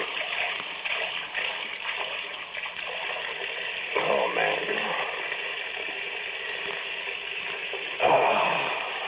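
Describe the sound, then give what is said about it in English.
Water runs steadily into a drinking glass in a small kitchen, a continuous splashing hiss that swells briefly twice, while a man murmurs a short remark over it. “I better be getting out of here after I get a drink.”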